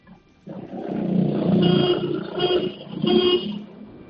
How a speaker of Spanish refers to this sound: Vamos a darle tres toques muy cortitos al claxon, ¿vale? Así no llamas la atención y a ver si me ayudas a mí.